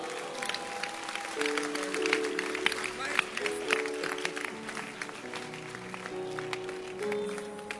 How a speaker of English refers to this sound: Clap your hands for him.